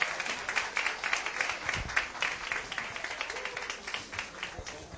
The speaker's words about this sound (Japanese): どうぞ祝福の拍手を持ってですね、皆さんお送りください。